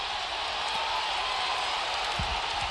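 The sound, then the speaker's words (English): A dense, steady roar of a Hokies basketball arena crowd cheering wildly after Jordan Miller missed a free throw, as fans win free bacon if he misses the second; a continuous wash of many voices yelling at once without letup, heard from within the stands. “After Jordan Miller missed that free throw, the crowd's going nuts.”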